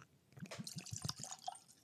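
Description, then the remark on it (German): Kilhoman Scenic whisky at room temperature glugs from a freshly opened bottle into a glass, a quick run of soft gurgles and splashes lasting about two seconds, with no talking. “Und gieß mir mal ein Glas voll rein.”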